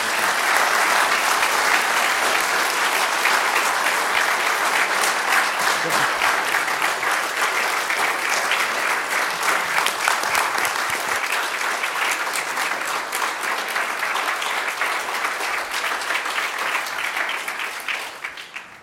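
An audience claps steadily for nearly twenty seconds, a dense, loud wash of many hands that holds level throughout, then tapers off briefly at the very end. No voices stand out.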